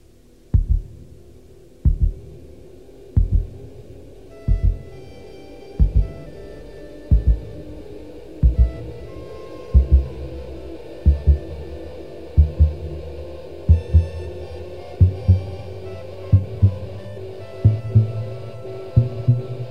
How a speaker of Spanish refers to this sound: Observa que poco después de que se puede escuchar con claridad el latido del corazón, es decir, el motivo 1, un saxofón soprano presenta el motivo 2.